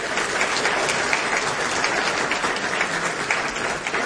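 Steady, dense applause from a large congress audience, thanking the administrative staff who organised the congress, fills the whole stretch at an even, fairly loud level, a continuous wash of many hands clapping with no voices standing out.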